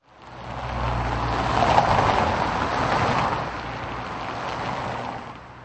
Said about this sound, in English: Every second vehicle on this busy motorway outside Prague seems to be a goods lorry.